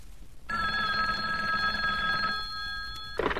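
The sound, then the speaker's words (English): A hotline telephone bell rings loudly and continuously for about three seconds, a bright sustained metallic trill, then cuts off with a brief clatter as if the receiver is lifted. “Now, hand me the hotline phone.”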